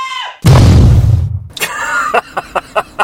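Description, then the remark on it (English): A sound effect of a little explosion: a short shriek gives way to a sudden, loud burst with a rumbling low roar that fades over about a second, followed by a few sharp pops and faint whistling tones. “Like a little explosion.”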